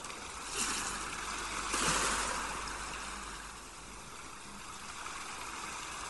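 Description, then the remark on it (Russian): A steady wash of ocean surf with a couple of swelling waves early on, then the roar slowly eases and settles into a softer, even hiss. No voices. “Шум прибоя постепенно стихает.”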